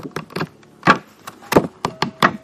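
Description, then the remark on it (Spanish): Stiff pages of a book of new, handmade paper being flipped, making about eight crisp, papery slaps and rustles in an irregular sequence, fairly loud with no voices. “Pero después también, si oigo cómo suenan sus hojas, óiganme.”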